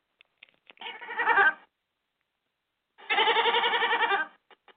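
A goat named Jacob bleats twice in a studio, a short wavering call followed by a longer, louder quavering bleat after a brief pause, with a few faint clicks and taps around them.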